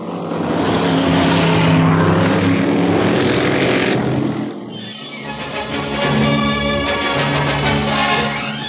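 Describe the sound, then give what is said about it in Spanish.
Two race car engines roar and rev loudly as the cars lap the track at the Alhambra racetrack to warm up their engines, a sustained howl that briefly drops away midway before surging again with a higher, buzzing whine. No one speaks. “Una hora más tarde, en el autódromo de Alhambra, los dos formidables autos de carrera han dado varias vueltas a la pista para que Calimán la reconozca y para calentar los soberbios motores.”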